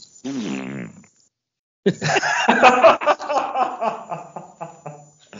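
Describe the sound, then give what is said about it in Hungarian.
A single drawn-out, buzzy fart with a falling pitch, followed by a short pause and then several people bursting into loud, prolonged laughter. “Négy tagú társaságból egy, és csak is egy ember lehet 100%-ig biztos abban, hogy ki fingott.”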